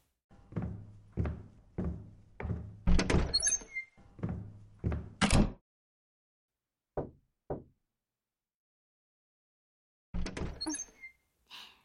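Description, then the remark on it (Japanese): Solid knocks on a door come in bursts: a run of steady raps, a short pause, two lone knocks, then another quick cluster. Fairly loud, with no one speaking. “この扉をノックしたってことは覚悟を決めたんだね。”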